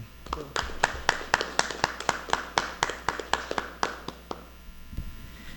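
A small group of council members applauds with sharp, fairly steady claps for about five seconds, the rhythm slightly uneven, then the clapping stops over a low background hum.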